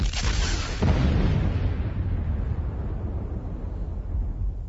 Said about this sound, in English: This explosion generated all space, energy, matter.